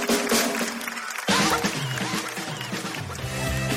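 Steady audience applause for the children who had been up on stage fills the whole stretch, a dense wash of many hands clapping at once, with music playing underneath and a brief dip near the start.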